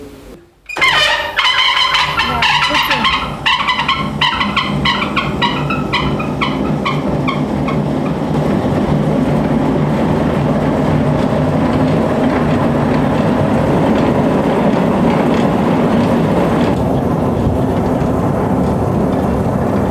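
A wool carding machine, carding washed wool, starts up abruptly and runs loud, a steady mechanical roar with a fast rhythmic clatter that fades into a continuous rumbling drone. No one speaks.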